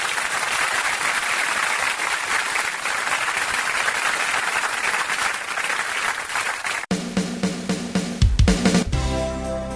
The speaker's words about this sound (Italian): Io direi di... siamo quasi pronti, sì, ti vedo, sei pronto, l'oscuro è pronto, un bel applauso